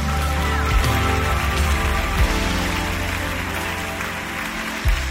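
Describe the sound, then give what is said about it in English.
An audience claps hands steadily in praise for several seconds, a dense, continuous wash of applause filling the room, with a low sustained musical tone humming underneath. “Clap your hands.”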